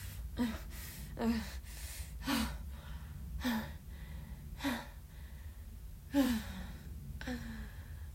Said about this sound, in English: Here. You can breathe now. Oh, your gasping is just so cute, baby.